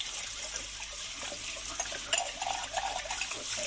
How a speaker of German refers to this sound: So, und während das letzte bisschen durchläuft, kann ich dann hier meine Utensilien, also meine Kaffeetasse, einmal ein bisschen abwaschen.